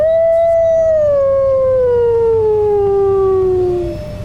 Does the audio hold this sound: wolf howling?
yes